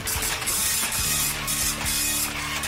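A slow, small printer prints out a game score, whirring and grinding steadily, its mechanism buzzing in repeated pulsing passes with faint ratcheting clicks, with no voices present.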